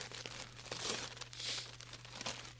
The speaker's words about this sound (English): Find the wrapping paper. Open it.